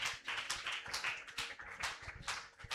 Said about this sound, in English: Give the Lord a mighty hand of praise.